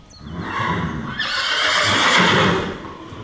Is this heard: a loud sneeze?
no